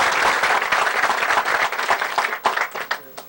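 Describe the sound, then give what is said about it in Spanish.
A crowd applauds steadily, dense overlapping clapping at a strong level, thinning slightly toward the end as individual claps stand out. The applause is for Colombia's soldiers and police, at a construction project in the canyon of the Porce River between Anorí and Amalfi, Colombia. “Lo aplaudimos a los soldados y policías de Colombia, señores generales.”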